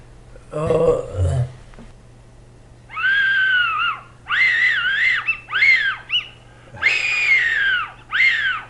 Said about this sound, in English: That's really the call to get the foxes. Yep. Yeah. What do they call that? It's fox whistle.